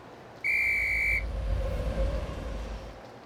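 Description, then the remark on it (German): A train whistle sounds one steady, shrill blast lasting under a second as the train pulls into the station, over a low, continuous rumble that keeps going after the whistle stops. “Der Zug fährt ein.”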